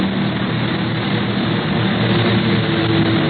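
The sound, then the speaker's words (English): An out-of-control plane's engine roars loudly and steadily throughout, a dense, droning propeller-and-engine noise with a low hum underneath as the aircraft goes into a nosedive; no voices. “He's going into a nosedive.”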